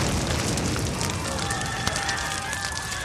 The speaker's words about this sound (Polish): Nie słuchali się swojego wodza, bo tak chcieli tym ruskim pokazać, gdzie raki zimują, że niechcący podpalili magazyn amunicji i straszny wybuch się zrobił.